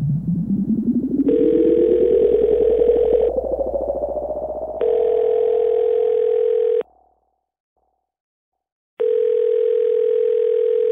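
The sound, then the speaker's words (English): A phone line rings out with three long, buzzy ringback tones about two seconds each, separated by pauses, and nobody picks up. A rising electronic sweep plays under the first two rings. “Look, I don't know why you're not answering your phone.”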